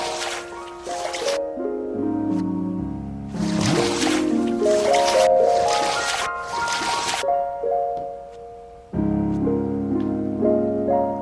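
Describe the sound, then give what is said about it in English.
Bursts of splashing, sloshing water from a video game character swimming slowly, coming in a few loud surges over steady, tonal background music, with no talking. “I'm slow going in this water.”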